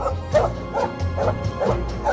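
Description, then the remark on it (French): A dog barks about five times in a steady, evenly spaced rhythm, moderately loud, over a low continuous rumble; it is Doll, a female dog, let out of a car to sniff around at a country chalet at the edge of the Mexican desert. “Il laissa Doll, sa chienne, sauter de voiture et renifler son terrain de chasse.”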